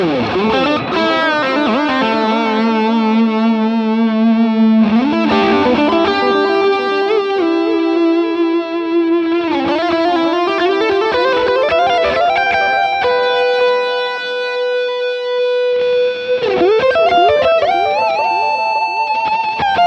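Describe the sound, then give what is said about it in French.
An electric guitar played through an overdrive pedal with the built-in boost of a Steampunk unit engaged, holding long sustained notes with slides and bends, loud and gritty, with fairly low noise and no talking throughout. “On va essayer maintenant de booster la touch avec le boost qui est intégré à la steampunk.”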